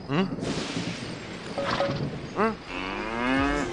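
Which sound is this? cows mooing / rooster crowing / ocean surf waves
cows mooing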